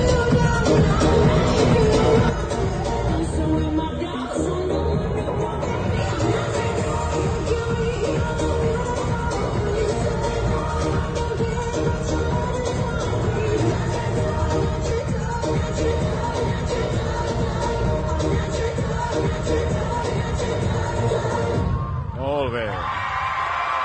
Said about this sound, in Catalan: Forces aplaudiments també per part del públic.